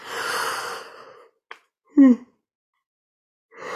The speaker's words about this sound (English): And by the way, when I yawn, it's not physical tiredness. In shamanic work, yawning is a form of energetic release.